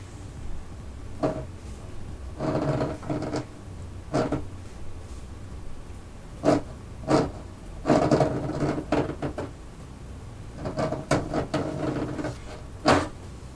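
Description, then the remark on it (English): Human fingernails scratch and scrape into wood in irregular rasping bursts, some drawn out and some short and sharp, moderately loud against a quiet, low rumbling background. “It was replaced with a very distinct sound. The sound of human nails scratching into wood.”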